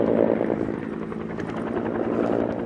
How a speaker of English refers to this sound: At other fires, like the Aggie Creek Fire, which is also threatening the Trans-Alaska Pipeline about an hour north of Fairbanks, supplies are being moved back and forth by a helicopter.